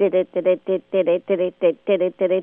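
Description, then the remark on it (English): A ham radio transmission, not Morse code: a rapid, evenly paced stream of garbled, voice-like bursts, fairly loud, with no clear talk over it. “No, it's not Morse code. It is ham radio.”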